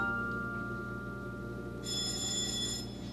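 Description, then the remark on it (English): A back doorbell rings with a bright, sustained buzzing tone that starts partway through over a steady low hum, and a short louder burst comes at the very end. “That's the back doorbell.”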